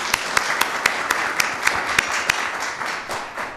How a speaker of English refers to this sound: So please, let's give another round of applause for the First Lady.